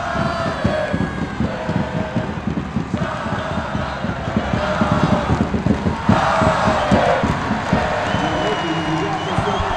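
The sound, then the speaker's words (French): A basketball crowd, the supporters of the Pays de Fougères Basket team, cheers and applauds loudly and continuously, dense clapping mixed with shouting voices that swell in intensity partway through and stay high to the end. “Il n'y a pas photo à l'applaudimètre. Cette équipe du pays de Fougères Basket, les supporters sont vachement au-dessus des supporters normands.”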